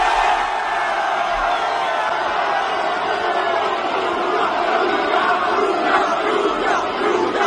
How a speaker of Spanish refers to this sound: Del mercado, hoy ha sido presentado con el Milan un tal Luka Modric, que además de la rueda de prensa ha recibido la ovación de su nueva afición.